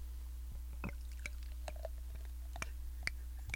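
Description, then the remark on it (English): A drink poured from a bottle into glasses, heard as soft, irregular drips and small splashes over a steady low hum, with no one talking. “Okay, ladies and gentlemen, I'm about to pour.”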